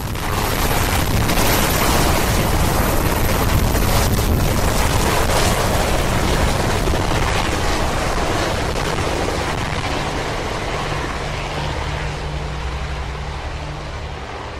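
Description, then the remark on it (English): A helicopter carrying the first family leaves the Capitol, roaring with a dense, steady rotor wash and deep rumble, the noise easing slightly toward the end as it departs. No voices. “Then, the first family leaves the Capitol by helicopter.”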